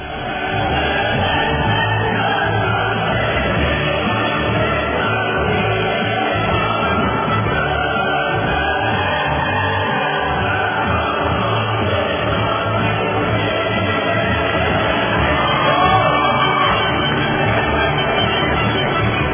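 A dense crowd sound of applause mixed with cheering, shouts and whoops, steady and loud throughout with no pauses, like a canned sound effect, played as applause for judge Juan Antonio Durán.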